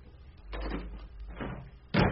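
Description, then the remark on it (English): The door of a house being used as a hospital slams shut with a sudden, loud, heavy bang at the very end, after two softer rattling thuds from the door being handled. No one speaks. “Who was that who slammed the door?”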